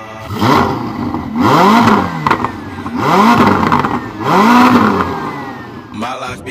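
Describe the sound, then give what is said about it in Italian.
A Ferrari sports car engine revs hard three times in a row, each rise and fall sweeping up in pitch and back down, loud, with a brief clattering noise at the end. “Qual è il motore della Ferrari, cara mia? Il motore numero uno.”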